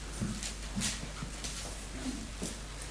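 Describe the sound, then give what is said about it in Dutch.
Pages of a Bible being flipped to look up Luke 11, a few quick, irregular papery rustles and soft flicks over a low, steady background hum, with no one talking. “Dan begin ik zo lang te bladeren.”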